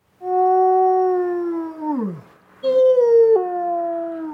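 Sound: wolf howling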